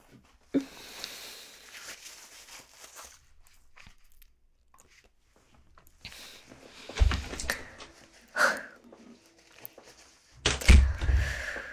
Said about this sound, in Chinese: 啊，有人敲门，是不是你女朋友来了？